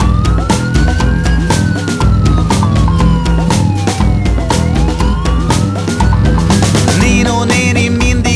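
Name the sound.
emergency vehicle siren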